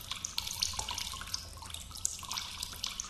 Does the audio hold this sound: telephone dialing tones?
no